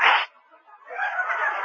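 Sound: sneeze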